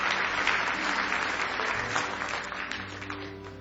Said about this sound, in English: Give Him one more hand clap of praise if you love Him.